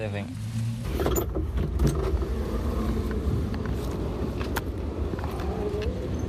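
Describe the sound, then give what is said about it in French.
An old blue 1951 Chevrolet used as a shared taxi, repaired with Mercedes-Benz parts, drives along in Havana, Cuba, with a steady, low engine rumble and road noise, a few light rattles and clicks on top, while muffled voices talk faintly underneath. “À l'origine, c'est une Chevrolet, une vieille Chevrolet de 1951.”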